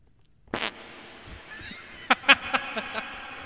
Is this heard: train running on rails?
no